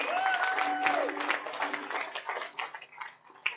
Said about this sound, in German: Lass uns sie richtig ehren. Das sind die wunderbare Frauen unserer Gesellschaft. Wow. Ja, ja, komm, gib ihnen einen richtig Applaus, einen dicken Applaus.